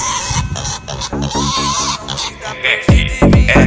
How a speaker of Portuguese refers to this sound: Os porcos fugiram do chiqueiro.